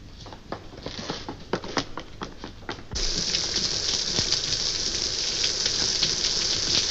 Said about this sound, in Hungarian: Mi az, esik? Csak úgy zuhog, nagyságos uram.